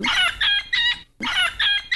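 Loud, high-pitched yodel-like calls of South American monkeys, recorded in a wildlife sanctuary, in two bursts, each made of three quick notes that leap abruptly between pitches, with a brief pause between bursts and no talking.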